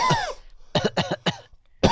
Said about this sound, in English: I cough three times.